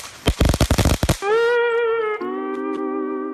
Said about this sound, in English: And if you get one incorrect, yes. you will hear this sound.